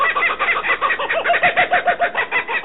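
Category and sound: bird, kookaburra laughing call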